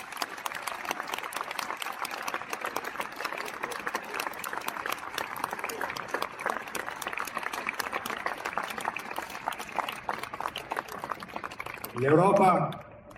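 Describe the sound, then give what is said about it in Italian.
A large outdoor crowd in a public square applauds steadily for Ukraine's president, a dense wash of clapping filling the space for several seconds, with a louder burst of cheering and voices rising near the end. “E a lui credo dobbiamo mandare un forte abbraccio, un forte applauso di tutta questa piazza.”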